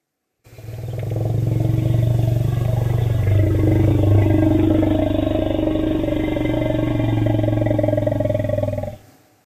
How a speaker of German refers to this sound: Das ist der Rumble. Genau. Der Elefanten-Rumble, für den es eigentlich gar kein wirklich gutes deutsches Wort gibt. Rumble heißt Grollen, aber man sagt auch auf Deutsch der Elefanten-Rumble.